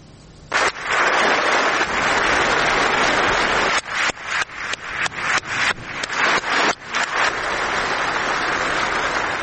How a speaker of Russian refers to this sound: На заседание в качестве почетной гости пригласили жену президента Украины Елену Зеленскую. Ей аплодировали стоя.